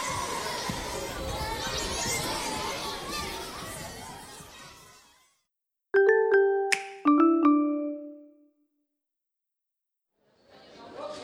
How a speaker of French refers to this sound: J'aime me faufiler à travers cet ensemble coloré où se mêlent les odeurs de lavande et d'épices. L'air y est joyeux avec les cris des enfants et des marchands.